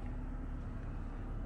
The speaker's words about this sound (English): I'm on the bus home now.